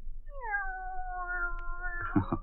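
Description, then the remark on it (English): A single drawn-out cat meow, steady and tonal, held for about two seconds before breaking into a rougher, throaty tail; moderately loud over a low background hum. “Will you listen, Kitty?”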